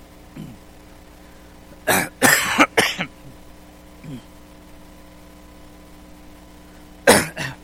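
A harsh burst of coughing from someone whose throat has suddenly gone tight, three or four coughs in quick succession, followed by a quiet stretch with faint throat noises and then one more sharp cough near the end.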